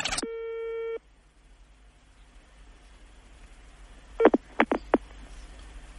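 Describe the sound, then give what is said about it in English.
A single steady electronic telephone tone sounds for about a second during a call to Vatican Radio, then quiet line hiss, followed by three or four sharp clicks and pips close together near the end. “Fast me the phone. Fast me the phone.”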